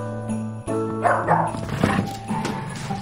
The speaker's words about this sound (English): The dog chases it. Come on, good boy!